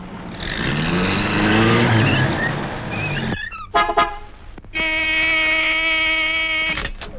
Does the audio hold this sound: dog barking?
no